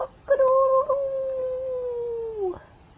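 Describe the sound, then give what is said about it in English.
A voice imitates a rooster's crow with one long, drawn-out call that holds steady and sags slightly in pitch over about two seconds, fairly loud. “A rooster.”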